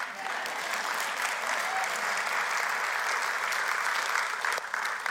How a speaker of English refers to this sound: If you're going to clap, clap.